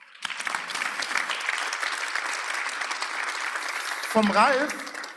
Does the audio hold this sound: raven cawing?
no